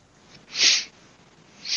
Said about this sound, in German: Ich habe dich gerade noch schniefen hören, mehr nicht. Ist auch erkältet, ne?